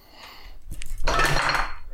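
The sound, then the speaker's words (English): A light bulb thrown up onto a table lands with a sharp knock, followed by a bright, glassy clatter and rattling that lasts about a second, fairly loud, with no talking. “I've got a light bulb in my hand, and Michael's asking me to throw it. Not on the ground, on the table.”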